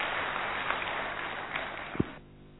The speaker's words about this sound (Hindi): विश्वास रखता हूं कि हम सब इंट्रिंसिकली मोटिवेटेड हैं, हाँ या ना? अगर हैं तो जोर से ताली बजाएं।